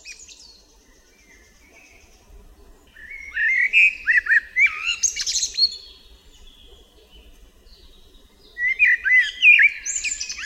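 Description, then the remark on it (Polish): A common blackbird sings slow, melodious phrases of fluty whistles ending in squeaky twittering flourishes, with pauses between phrases, clear against a quiet background. “W powolnej i melodyjnej pieśni kosa wyróżniają się fletowe gwizdy i świergotliwe jazgoty.”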